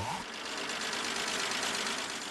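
The engine of a very old maroon and black Plymouth pickup truck idles at a car show with a steady, rapid mechanical ticking and a smooth, even hum, heard on its own at a moderate level.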